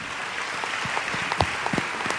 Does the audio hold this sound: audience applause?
yes